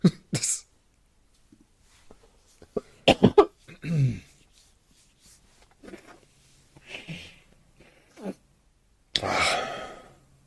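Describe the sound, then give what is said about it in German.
Several sharp coughs in scattered bursts, with throat-clearing noises and breathy exhales between them, ending in one loud, harsh cough with no talking. “Mein Husten gerade.”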